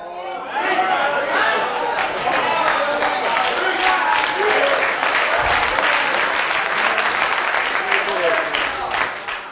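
A large audience claps steadily, a dense, sustained wash of applause that fills the room for the whole stretch, with some indistinct crowd chatter mixed underneath.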